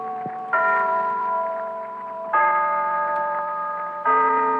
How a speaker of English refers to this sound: And there's the clock in Glen Falls Town Hall telling us it's time for the story of Big Sister.